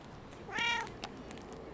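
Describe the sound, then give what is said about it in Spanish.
A single short meow from a female Croatian cat, clear, rising and falling over about half a second against faint background hiss and a couple of small clicks. “Gata croata.”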